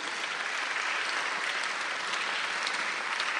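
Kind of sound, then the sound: crowd, audience applauding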